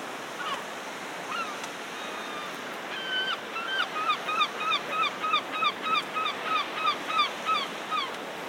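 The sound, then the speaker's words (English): Seagulls call by the sea in a fast, repeated series of sharp, nasal cries over a steady wash of surf, the calls growing louder and more regular as someone walks toward the sea and the port. “You can always hear the seagulls though, can't you?”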